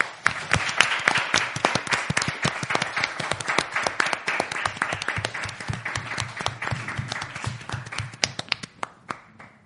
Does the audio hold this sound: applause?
yes